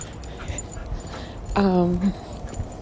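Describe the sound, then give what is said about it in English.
A dog trying to jump on people lets out a single drawn-out whimper lasting about half a second, a high, tonal whine that dips slightly in pitch, against a low, steady background noise. “It's my dog trying to jump on people.”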